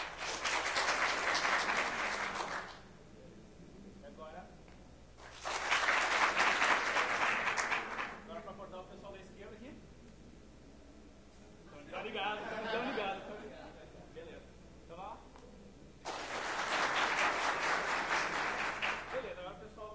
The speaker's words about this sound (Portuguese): Quando eu cruzar o meu braço, se o braço direito estiver por cima, o pessoal da direita bate palmas. Tá? Mas eu quero que vocês batam palmas, tá? Não me deixem no vácuo aqui quando eu cruzar os braços.